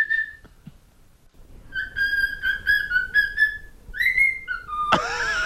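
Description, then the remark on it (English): A person whistles an imitation of a bird call: a short high note, then a long run of steady, wavering whistled tones and a rising phrase, ending in a sudden harsh noisy burst. “What a great bird.”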